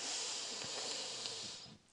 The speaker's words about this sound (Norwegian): Da starter vi med å puste godt inn gjennom nesa.